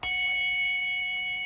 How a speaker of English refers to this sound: F sharp bell ringing.